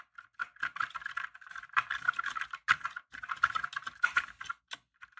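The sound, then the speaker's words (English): Steady, muted typing on a mechanical keyboard with Kale Copper switches, silent switches with a little tactile feedback: soft, dampened key presses in quick irregular bursts, with no talking, gentle clacks rather than sharp clicks. “So these switches, these are Kale Coppers, which are a silent switch, but they have a little bit of tactile feedback.”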